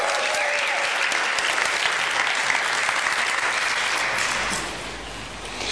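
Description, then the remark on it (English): An audience claps steadily in a dense, sustained round of applause for a man coming up to the front, lasting several seconds, then it thins slightly toward the end, with no one speaking over it. “come on, give him a big round of applause, everyone.”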